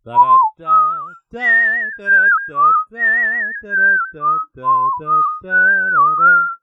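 whistling sound effect

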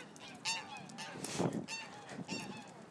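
geese honking nearby

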